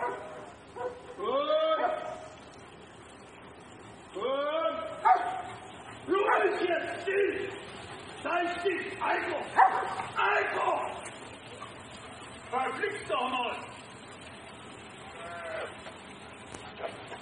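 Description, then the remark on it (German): A white dog barks and whimpers in repeated bursts as sheep walk toward it, high whining yelps rising and falling over a steady outdoor background hiss, moderately loud. “Und die Schafe laufen zum Hund, bis der Hund irgendwann dann doch merkt, dass er da nicht stehen bleiben sollte.”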